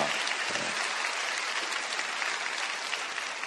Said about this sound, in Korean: 우리 청년들도 많이 온 것 같은데 우리 청년들을 위해서 좀 격려의 박수 했으면 좋겠습니다.